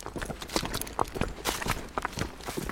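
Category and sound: animal, horse hooves clip-clopping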